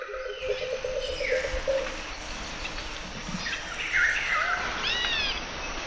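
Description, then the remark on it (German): Dense rainforest ambience in Brazil: a steady wash of insect buzzing fills the background while several birds call and whistle, including a repeated low warbling note early on and rising, swooping chirps toward the end. “Stell dir nur vor, ich rufe dich heute aus dem Regenwald in Brasilien an.”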